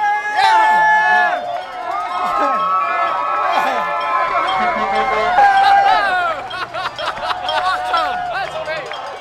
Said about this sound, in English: Because it's a big crowd, but it's not really an unruly crowd.